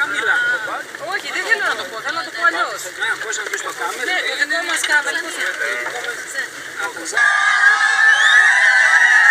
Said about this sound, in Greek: Αυτές οι κραυγές είναι κραυγές καλώς ορίσματος και κραυγές ευχαριστίας. Θα τις ακούσετε αρκετές φορές.